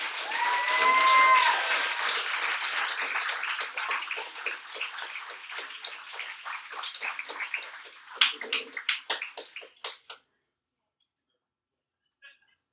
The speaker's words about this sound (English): All right, let's have another round of applause for our readers.